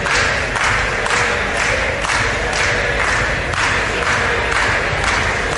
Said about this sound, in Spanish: Los que gritan que se besen son los diputados de Vox, que junto a Ciudadanos no han querido participar ni en la votación ni en el enjuague político para repartirse los sillones de Radio Televisión Española.